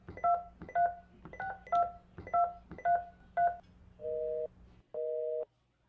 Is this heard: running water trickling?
no